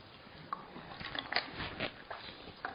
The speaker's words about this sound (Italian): Bevo un po' d'acqua.